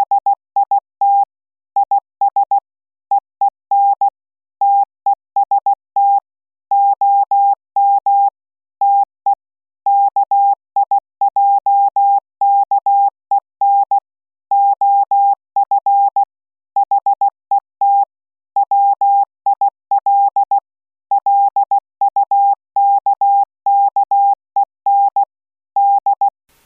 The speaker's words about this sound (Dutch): Ik ga een kort stukje Morse laten horen en daarna nog een wat langer stuk waarin ook informatie valt te lezen die in dit gesproken gedeelte dus niet wordt verteld. Hier is een kort stukje Morse.